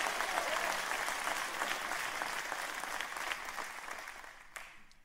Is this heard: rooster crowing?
no